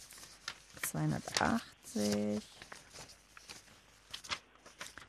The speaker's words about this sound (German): Muss ich ein wenig blättern.